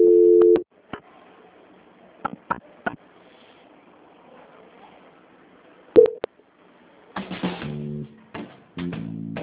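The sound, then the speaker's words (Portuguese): Telephone line tones as a call is transferred: a steady beep opens, followed by scattered clicks and a faint hiss, then another beep and a final burst of rapid stepped tones. “Transferência.”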